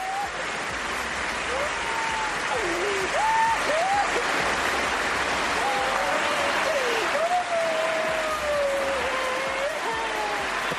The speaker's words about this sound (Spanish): Se mezclaba el llanto de Carolina con la ovación de todo el pabellón en pie, aplaudiendo a nuestra campeona